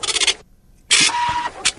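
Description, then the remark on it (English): A voice imitates a printer: a hissy, scratchy burst, a short pause, then a longer grinding whir with a steady tonal hum, ending in a quick final hiss. “That's the printer.”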